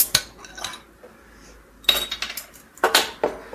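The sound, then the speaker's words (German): A bottle being opened: bursts of bright clinking and rattling glass and metal, in three clusters separated by short pauses, with no one talking. “Ich mach mal kurz auf hier.”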